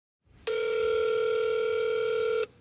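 A single ringback tone from an outgoing phone call to the offices of Jack's Puppies Incorporated: one steady, buzzy mid-pitched tone lasting about two seconds, then cutting off, over a faint low hum with no voices.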